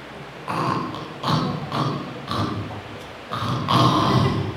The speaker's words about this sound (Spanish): El hombre empieza a dormir profundamente cantando y roncando.